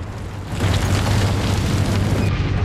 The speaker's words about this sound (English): The pyroclastic current strikes the boat shed.